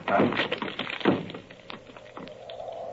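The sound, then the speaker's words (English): Two heavy, booming thuds strike the locked wooden door of Dr. Roylott's room as it is broken in, followed by a scatter of lighter knocks and rattles as it gives way, with a faint steady hum underneath. “But Holmes, the door's locked. Break it in.”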